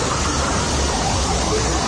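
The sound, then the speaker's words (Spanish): Water rushes through a pipe in a steady, loud, hissing roar with a low rumble underneath, unbroken for the full two seconds and with no voices. “Mira el agua, muy mal en la tubería.”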